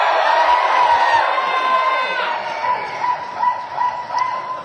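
A nightclub crowd, there to watch a show and having food, cheers and shouts loudly, a dense wash of many voices with a few higher yells cutting through, holding steady before breaking into shorter swelling bursts of whoops.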